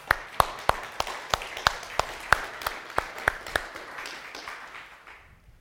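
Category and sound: crowd, short audience applause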